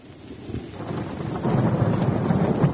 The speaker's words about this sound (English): It's raining.